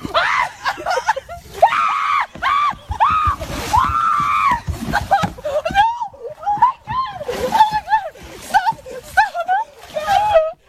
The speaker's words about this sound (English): you break through and you fall into water up to your chest, freezing cold water